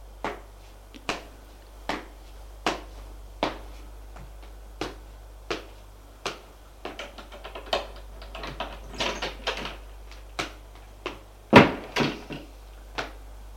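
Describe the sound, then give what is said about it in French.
A door shuts with a sharp knock after a flurry of rattling and clattering, set against a steady series of crisp, evenly spaced clicks, as a man closes the door of the attic of an apartment building. No voices. “Arrivé au grenier, il a fermé la porte.”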